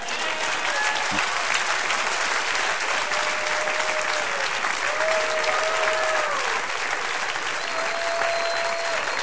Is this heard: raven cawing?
no